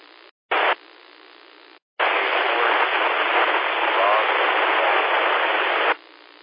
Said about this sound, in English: Okay, that last station that just checked in, you're really, really far down in the white noise. You might want to move around, try to get a better X, bump up your power, do something, but I'm not able to pull you out.